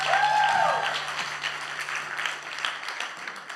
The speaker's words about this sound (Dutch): Applaus voor de band.